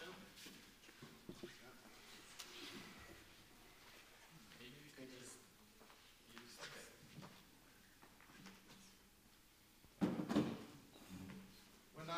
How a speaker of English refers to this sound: Actually, let's get a chair.